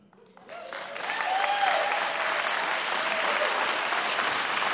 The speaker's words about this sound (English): Your claps are very nice, but I got like a minute left.